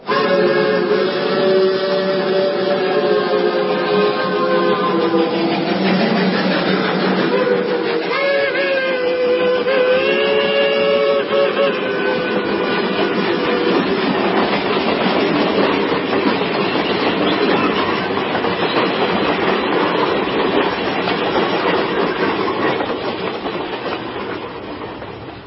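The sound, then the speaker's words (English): A train roars through a tunnel, a loud, continuous rumble with rattling wheels and a shrill whining tone in the first ten seconds, steady to the end. No one speaks. “After what seemed an eternity of silence between us, the train entered a tunnel.”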